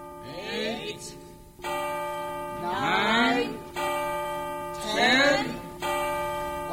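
A tower clock bell strikes eleven in slow, evenly spaced, resonant tolls, each ringing on with a rich humming tone, while a voice-like sliding sound rises and falls between strokes.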